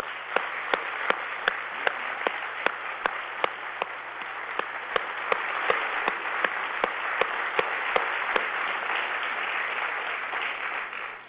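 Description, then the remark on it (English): Steady audience applause, a final round of applause for Paul, fills the whole stretch: a dense wash of many hands clapping at an even level, with a few sharper individual claps standing out in a regular pattern. No voices are heard. “As we all give Paul a final round of applause for his outstanding contribution.”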